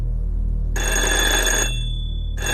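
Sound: telephone bell ringing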